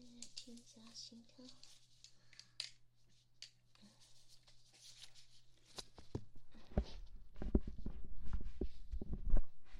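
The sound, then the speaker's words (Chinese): Soft, muffled heartbeat thumps pulse in a steady rhythm over a constant low hum as the heartbeat is checked during a diagnosis after taking medicine, followed by louder rustling and bumping noises toward the end. “我现在再来给你诊断一下你的心跳。”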